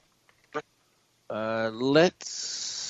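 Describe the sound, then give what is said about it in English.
A short click and a brief voiced sound, then a steady snake-like hiss that starts abruptly and continues without a break to the end. “Let's put on a snake.”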